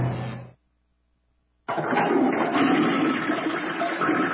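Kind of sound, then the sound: household object, toilet flushing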